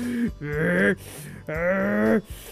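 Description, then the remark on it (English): A voice imitates Dracomax the dragon taking deep breaths in to fill his lungs and chest with dragon fire, with two long, strained, groaning inhales, loud, separated by a brief pause and no spoken words. “But Dracomax kept breathing in, filling his lungs and chest with dragon fire.”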